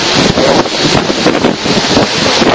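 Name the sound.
wind blowing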